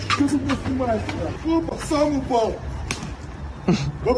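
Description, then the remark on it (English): A couple of sharp, smacking slaps as an angry Russian man hits another shopper in the face with a sausage at a grocery store in Ukraine, among the man's agitated, raised voice. The hits are brief and fairly loud, with continuous talking around them. “is it C, an angry Russian man slapping another dude in the face with a sausage?”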